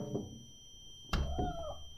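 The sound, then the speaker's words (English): An electric cat paws at a window, bumping the glass with a single dull thump, then lets out a short, rising meow, with faint background hum and no talking. “The first thing I see is one of the electric cats pawing at the window.”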